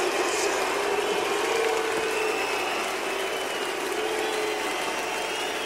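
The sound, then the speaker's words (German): A large audience reacting to a live stage performance fills the space with a steady wash of crowd noise, a dense mix of clapping and murmuring that holds at an even level for several seconds without distinct voices. “Und hör mal, wie das Publikum reagiert auf den Auftritt.”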